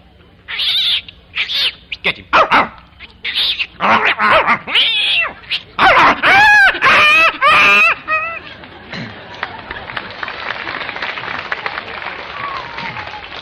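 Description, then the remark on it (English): Cats yowl and screech in a frantic scuffle, a burst of harsh, rising cries and hissing bursts, then the fight fades into a rough, noisy rustle. “the cat got the best of that.”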